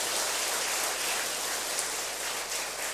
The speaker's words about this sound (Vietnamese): các quý Phật tử tại thành phố Hồ Chí Minh, các tỉnh thành trên toàn quốc đã đóng góp và hưởng ứng cho các Phật sự của thầy đó trong mấy năm qua là đáng được trân trọng, cho một tràng vỗ tay thật lớn để tán dương chung.